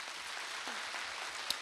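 A crowd applauds, with dense, continuous clapping that holds a steady level for the whole stretch. No voices are heard over it.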